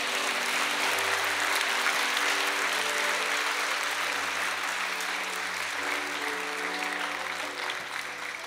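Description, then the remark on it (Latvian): Steady applause from an audience, given to the Lord, fills the whole stretch, a dense wash of many hands clapping at an even level, with a low sustained musical tone humming underneath. “Dos, ka jūs aplausu tam kungam!”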